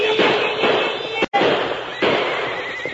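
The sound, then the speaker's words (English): A rapid volley of gunshots fired into the air to stampede wagon horses, sharp cracking bangs about every half second over a continuous noisy roar, with one brief break of silence midway. “Shoot your gun into the air.”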